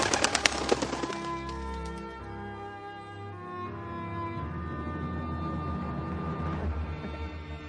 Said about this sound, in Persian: کبوتر اینجا دست پا میزن.